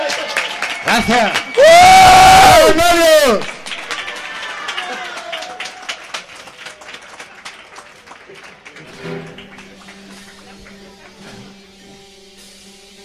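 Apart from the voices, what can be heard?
audience applause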